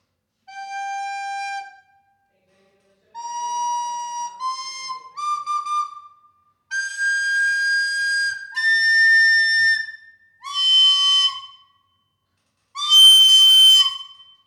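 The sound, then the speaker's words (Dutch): A recorder plays a string of shrill, sustained notes, about seven in all with short gaps, climbing higher in pitch; the final note is loud, harsh and breathy. No one speaks. “ik kan natuurlijk nu gewoon weer blokfluiten”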